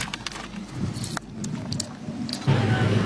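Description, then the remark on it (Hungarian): Metallic clinks and rattles of snow chains being fitted onto a car tire by a driver who had to stop on the road because the wheel was slipping, irregular and scrapy, with a steady low vehicle rumble rising in the last second. “Az egyik sofőr kénytelen volt megállni az úton, annyira csúszott a kerék, hogy inkább feltette a hóláncot.”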